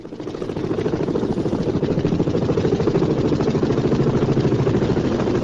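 A helicopter's rotor beats in a steady, rapid thumping over a loud engine roar, sustained throughout; a helicopter evacuating U.S. Embassy officials from the roof of the U.S. Embassy in Saigon during the fall of Saigon, recorded by CBS News.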